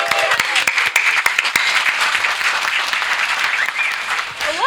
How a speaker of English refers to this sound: They're cheering as much for your feat of getting in through the crowd as for anything else.